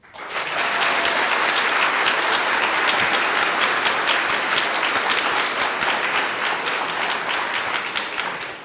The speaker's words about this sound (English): So first off, now you react with applause, of course. What are the chances that the sun will rise tomorrow somewhere in the world?